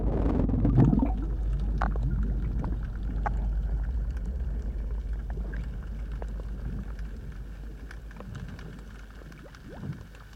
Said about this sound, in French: Et pourtant, si nous mettons la tête sous l'eau, nous discernons souvent une sorte de crépitement dont l'intensité varie selon les mers.